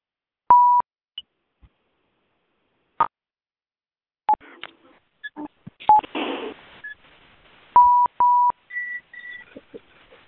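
Short, sharp phone keypad tones beep several times in an irregular sequence as someone unmutes a phone line, including a quick pair near the end, mixed with brief clicks, rustling and a burst of handling noise.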